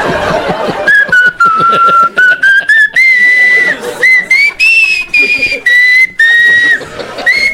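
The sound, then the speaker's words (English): A recorded whistled Christmas tune from an album, clear, carrying a steady melody of held and gliding notes, with brief chuckling and background voices at the start. “It's the Whistling Jackass's Lonely Yuletide on ABC Family Channel.”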